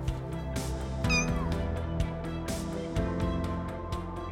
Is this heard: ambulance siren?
no